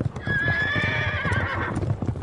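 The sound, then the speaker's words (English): A loud horse whinny rises and wavers for about a second and a half, with a rapid clatter of hooves underneath it throughout. “Now, Liam, cue sound effects.”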